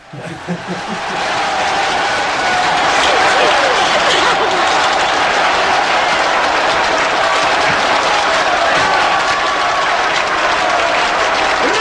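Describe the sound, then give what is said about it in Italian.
A crowd applauds steadily for about ten seconds, dense clapping that swells in quickly and holds loud and even, with a few chuckles mixed in near the start. “Aspettate, ci sono gli applausi, eh.”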